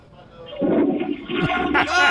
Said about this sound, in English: What is that? That's a toilet. You never heard toilet. Toilet flush? I mean, not as a caller after saying hello.